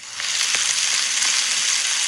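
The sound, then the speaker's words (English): Chicken frying in hot oil, a steady dense hiss of sizzling with scattered crackles and pops, fairly loud, with no voices. “It's way easier to record frying chicken than it is to get the microphones wet outside in the rain.”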